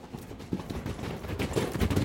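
Rapid, rhythmic thudding of a huge pitch-black Friesian horse's galloping hooves, a dense run of overlapping beats that grows slightly louder over a couple of seconds, with no voices.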